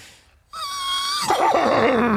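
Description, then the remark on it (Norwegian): A person imitates a horse whinny: a loud, high sustained voiced cry that breaks into a rough, fluttering, wavering tail, standing alone after a brief pause. “Ja, skal du høre hest?”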